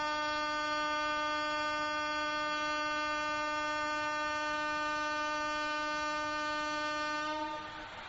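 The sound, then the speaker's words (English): A loud, sustained train horn blares steadily for about seven and a half seconds, a rich chord of harmonics, then cuts off abruptly with a brief rumble trailing behind. No one speaks. “Let us say Haribo louder than this train said, to counteract the effects.”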